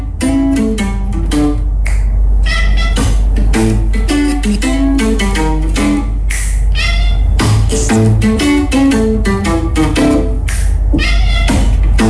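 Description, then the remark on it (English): A cat meows repeatedly along with bluesy guitar music, its drawn-out yowls rising and falling in time with the riff, loud throughout. “Our parting shot today on Respect Your Cat Day is a cat. He's feeling the blues. That sings the blues, yeah.”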